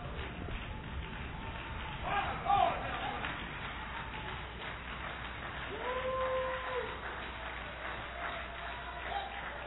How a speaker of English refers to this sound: Somebody stomp your feet a little bit